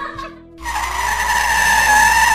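A car brakes hard: a short engine hum gives way to a loud, sustained tire screech that holds steady for a couple of seconds, with no talking.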